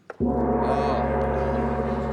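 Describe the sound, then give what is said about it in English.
A gong is struck once after a brief soft lead-in, giving a loud, sudden clang that settles into a sustained, shimmering metallic ring holding steady for about two seconds, with no talking. “And the gong tells us that everyone's had enough.”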